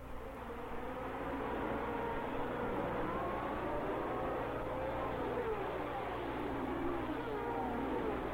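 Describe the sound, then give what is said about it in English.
Formula One race cars, led by Ferraris at the start of a Grand Prix at Monza, roar steadily throughout, several high-revving engines overlapping in a dense, buzzing drone with whining tones that rise and fall as cars pass, loud and continuous with no pauses. “the Ferrari's start was perfect, and Regazzoni and Lauda roared around Monza like a pair of fire engines”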